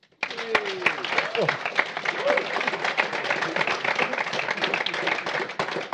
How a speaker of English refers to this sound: If you like, you can all give them a clap.